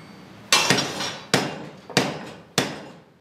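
Heavy metallic strikes of a water-powered trip hammer on iron in a smithy: stream water turns a man-high mill wheel, geared to a heavy log whose iron hammer head rises and falls. Five loud blows at a steady, slightly uneven rhythm, each ringing out before the next, with a faint background rumble.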